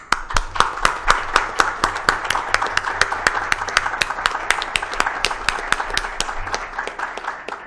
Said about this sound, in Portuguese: mas principalmente homenagear e pedir uma salva de palmas. Eu sei que isso quebra o protocolo, para o Dom Fernando, que está aqui, que veio, chegou agora aqui, logo depois que eu falei.